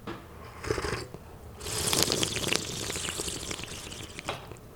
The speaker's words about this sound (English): So what we want to do is kind of divide this into three slurps. And slurping is extremely important. It's not impolite, it's actually polite. What we want to do is aerating it. It's almost like having a wine tasting. I will demonstrate it first.